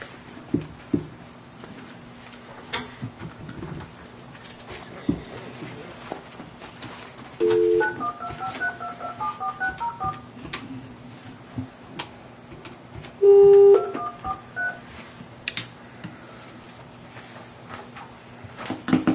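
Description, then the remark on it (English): Telephone dialing tones as a county board of equalization places a call for a phone appeal come in two bursts, each a short steady tone followed by a quick run of beeping keypad tones, over a low background hum and scattered faint clicks. “This is the Taney County Board of Equalization calling for your phone appeal.”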